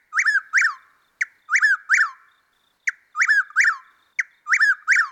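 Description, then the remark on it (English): A Chuck-will's-widow calls its name over and over, loud, each quick three-part whistled phrase repeating in a steady rhythm against a silent night background. “Plus, they also scream their name at you all night.”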